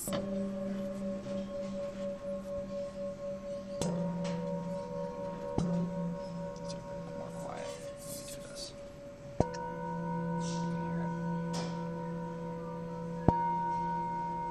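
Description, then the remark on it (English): Metallic Tibetan singing bowls created by Buddhist monks, used in a ceremony, ring with long, sustained shimmering tones, struck afresh about four times so new layers of humming overtones bloom over the steady drone. No voices. “metallic Tibetan singing bowls created by Buddhist monks.”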